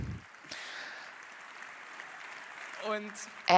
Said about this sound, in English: Laughing and applause.